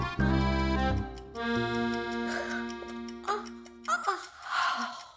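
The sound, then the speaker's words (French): A single long, drawn-out yawn voiced by a person, starting with a loud open tone that slides and sustains, then trailing off into a few breathy exhales. Fairly loud. “La tortue bâilla.”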